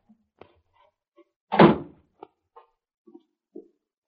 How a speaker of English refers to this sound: That's the cellar door.